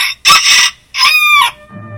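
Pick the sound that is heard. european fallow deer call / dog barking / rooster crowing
rooster crowing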